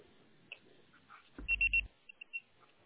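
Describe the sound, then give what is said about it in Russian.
A phone voicemail beep after a Russian-language busy-line message: three quick, shrill electronic tones in a row, with a low hum beneath, followed by a few fainter short blips. No one speaks. “Пожалуйста, попробуйте перезвонить позже или оставьте свое сообщение после звукового сигнала.”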